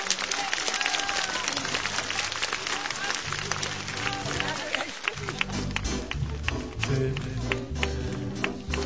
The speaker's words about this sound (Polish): Ci rodzice wspaniali, ci wspaniali kapłani, którzy tutaj są. Dla nich brawa. Takie mocne.